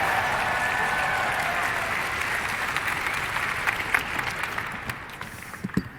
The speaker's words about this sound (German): Also, fangen wir an, bitte nochmal einen 5-Punkte-Applaus. Wir gehen auf 7 Punkte. 8 Punkte, 9 Punkte und jetzt mit einem 10-Punkte-Applaus,